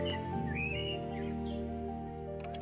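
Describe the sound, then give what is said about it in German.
A blackbird's fluty, warbling phrases rise and fall briefly, partly masked by a loud, steady droning hum that fills the whole recording. “Die Amsel.”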